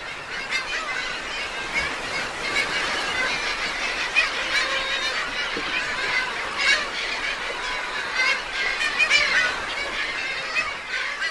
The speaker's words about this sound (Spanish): Isla Raza en época de anidación de gaviotas.